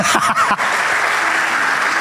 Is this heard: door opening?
no